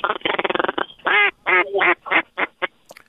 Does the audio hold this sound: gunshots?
no